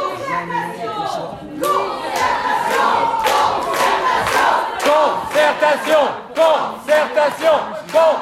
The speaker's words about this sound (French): La centaine d'opposants au projet qui plaidaient pour ce report a d'abord entamé une Marseillaise revisitée depuis les tribunes avant de descendre dans l'hémicycle pour empêcher la tenue des travaux.